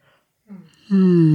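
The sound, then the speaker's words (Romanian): A single yawn: a short breathy intake, then a loud, drawn-out voiced groan that swells suddenly and holds steady to the end. “Ăsta e un căscat adevărat.”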